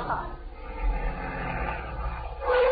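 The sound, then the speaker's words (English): A car engine rumbles low and steady as a car pulls into the driveway, with a brief rising whine near the end; muffled voices may sit faintly underneath. “Was that a car in the driveway?”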